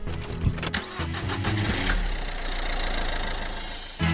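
A car engine cranks and turns over with a rough stutter, then settles into a steady, low idling rumble, with no voices.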